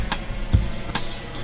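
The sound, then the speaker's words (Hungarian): A clock ticks steadily, four sharp clicks evenly spaced about four tenths of a second apart, clear against a quiet background with no voices. “Óráink pontosan járnak.”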